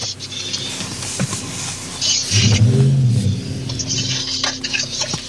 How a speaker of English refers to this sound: The neighborhood is very close to the airport, so you'll hear planes flying overhead.